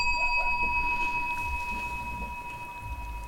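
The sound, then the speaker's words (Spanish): A bell rings once and its clear metallic tone sustains steadily through the whole stretch, slowly fading over a low background rumble, with no one speaking. “¿Toca el timbre? Lo toco yo.”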